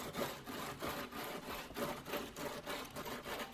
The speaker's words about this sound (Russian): Ну, желательно только прижимать пилу по возможности.